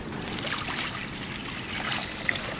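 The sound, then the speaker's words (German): Steady splashing of water pouring into one of two pots on a running stove in a canteen kitchen, a continuous gurgling stream lasting a couple of seconds with no voices. “Zwei Pfannen haben wir von uns. Die tun wir jetzt hier mal auf den Kochherd. Der läuft schon. So. Noch Wasser rein.”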